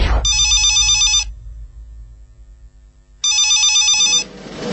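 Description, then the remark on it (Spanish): A telephone rings twice in loud bursts of bright electronic trilling, each about a second long, separated by a two-second pause with a low hum underneath. “Fuiste corriendo a atender el teléfono con los pies descalzos y pateaste la mesita donde tu vieja tiene las fotos de toda la familia.”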